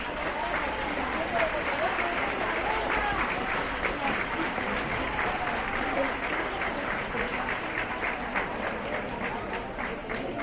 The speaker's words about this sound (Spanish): también van a poner voz unas valientes mujeres que están aquí y que ellas van a concluir poniéndole voz y dándole visibilidad también a ese paro femenino y a este gran día de hoy, del 8 de marzo, para el que pido un fuerte aplauso para ellas.